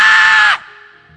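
man yelling loudly

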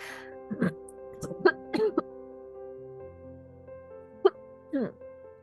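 coughing

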